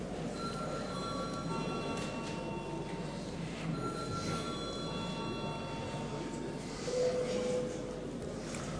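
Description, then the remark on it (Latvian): A parliament voting bell rings continuously for several seconds before deputies vote on passing a bill in its second reading, a steady, bright metallic tone with ringing overtones, over a low background murmur of voices and noise. “Lūdzu zvanu.”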